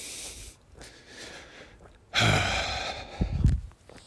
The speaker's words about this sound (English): Hey, the heavy breathing really makes it. Wasn't that great to listen to? Oh my God. So unvarnished.